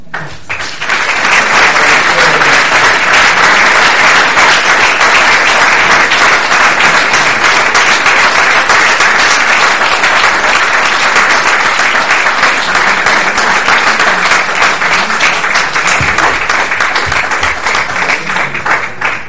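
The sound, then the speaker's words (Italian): Sustained audience applause after a talk on a hot day, a dense, steady wash of many hands clapping that holds at full loudness for nearly twenty seconds before easing slightly at the end. “Ringrazio Greta Cristini, ma credo che ci sia una gratitudine collettiva dimostrata non solo dai lunghi applausi, ma anche dalla permanenza, nonostante il caldo.”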